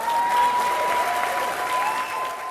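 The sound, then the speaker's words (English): Light, scattered applause from a modest, not very enthusiastic crowd at a Saturday morning political campaign event, steady and moderately loud for a couple of seconds, with no voices standing out above the clapping. “The crowd at the Saturday morning event was not substantial or overly enthusiastic.”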